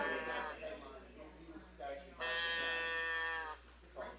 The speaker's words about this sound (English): The cows in the field.